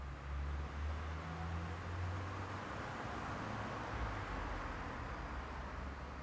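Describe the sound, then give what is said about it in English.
A steady low rumble of street traffic, with cars at a traffic light braking, stopping and pulling away, heard through a window open to the street as a continuous, fairly quiet wash of road noise with no voices. “I could hear the cars at the light braking, stopping, going.”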